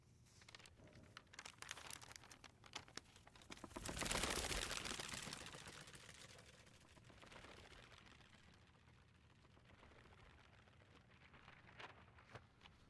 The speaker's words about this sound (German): Das Umblättern der Seiten. Das Falten. Das Glattstreichen, das ungeduldige Schütteln oder Schlagen, wenn ein Blatt nicht gleich gehorcht. Es hört sich an wie das Rascheln der Zeit.